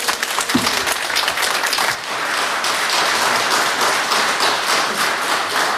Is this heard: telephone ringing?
no